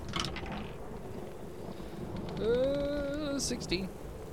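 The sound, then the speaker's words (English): A steady, dense roar of stormy rain and wind fills the whole stretch, swelling slightly midway, where a drawn-out moaning, creaking tone rises above the din before fading. “So, with the storm as bad as it is, you have very little visibility.”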